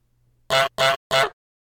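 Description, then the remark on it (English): A goose honks three times in quick succession, loud, each call short and brassy with brief gaps between, and no other sound around it. “Henry wasn't sure how the goose kept catching up with them.”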